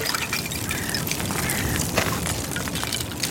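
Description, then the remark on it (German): Close, continuous watery sloshing filled with scattered bright clinks and tinkles of small floating ice shards knocking together as small waves from swimming strokes lap around them, near a shore. No voices. “Und dieses eisige Klirren und Klingeln der schwimmenden Eissplitter”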